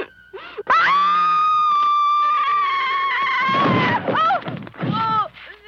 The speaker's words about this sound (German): Und wie könnte man das besser beginnen als mit der Scream Queen, höchstpersönlich Jamie Lee Curtis, die 1978 in John Carpenters Halloween mit diesem Schrei hier weltberühmt wird.